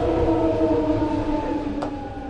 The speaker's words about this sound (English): It's hard to imagine a setting more urban than a Bay Area Rapid Transit or BART station in downtown San Francisco. In the tunnels below Market Street, trains are constantly coming and going.